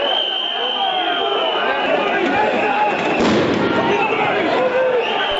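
A loud outdoor crowd of opposition Democratic Front supporters roars and shouts continuously at a night protest in Podgorica, Montenegro, and partway through a sharp explosive bang from a police stun grenade bursts out above the din before the commotion carries on.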